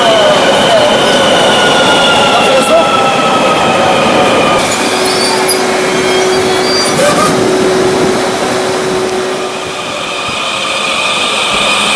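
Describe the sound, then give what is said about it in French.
An Algiers metro train in Algeria rolls loudly along the rails, a steady roaring rumble with drawn-out, high-pitched wheel squeals and whines running through it, continuing throughout without any voices. “Aujourd'hui, le métro, nous le disions, fête ses 5 années d'existence.”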